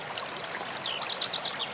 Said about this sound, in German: Hören Sie dem Wasser zu, wie es plätschert. Bleiben Sie bei der Wahrnehmung des Wassers.